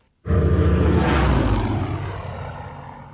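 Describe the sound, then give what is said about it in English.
A Hawker Hurricane fighter's Merlin V12 liquid-cooled supercharged piston engine roars in abruptly, loud, a dense rumbling drone with strong low throb that stays steady before easing slightly as it continues. No voices. “Hawker's brilliant new concept fighter was, of course, the Hurricane, which first flew in November 1935, built around that most magical of engines, the Merlin.”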